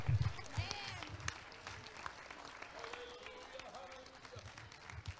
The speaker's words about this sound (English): If there's anybody that'll say, "I want to obey him," I wish you'd take your hands and clap them loud where the devil can hear you.